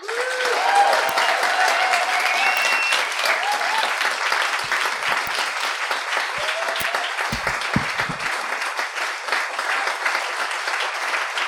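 A large audience applauds steadily for about twelve seconds, a dense, even wash of clapping with a few scattered whoops and whistles rising above it.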